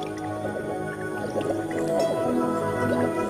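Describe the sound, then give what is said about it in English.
Wet, bubbly squelching and soft popping as a female mantis works out foam to produce its ootheca, a foamy egg case of layered egg chambers, steady for a few seconds, over a sustained low tonal hum with no voices. “The female produces a foamy birth pod called an ootheca, made up of layers of individual egg chambers up to 200.”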